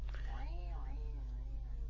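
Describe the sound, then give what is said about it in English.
A person imitates a cat's meow, one drawn-out rising and falling vocal call, over a steady low hum, with no other speech. “Why have you suddenly turned into a cat?”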